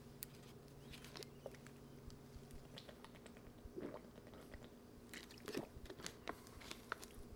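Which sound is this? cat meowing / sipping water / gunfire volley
sipping water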